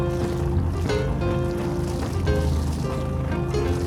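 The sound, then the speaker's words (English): A boat engine idles steadily while cooling water splashes and gurgles out of its exhaust in a continuous wet churn, with a low rumbling hum throughout and no voices. “And there's almost nothing better to my ears than the sound of cooling water coming out the exhaust.”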